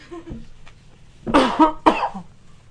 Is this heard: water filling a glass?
no